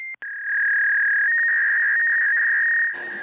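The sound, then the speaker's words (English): An electronic doorbell gives a couple of quick beeps, then a loud, steady high-pitched tone for a few seconds, like a fax machine, ending in a brief burst of hiss. “That must be my doorbell that sounds like a fax machine.”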